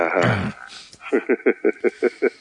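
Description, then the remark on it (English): A throat clearing: a low, rough rasp that fades, then a run of about seven short, evenly spaced voiced bursts, each fairly loud and abrupt. “Excuse me while I clear my throat.”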